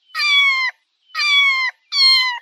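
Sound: cat meowing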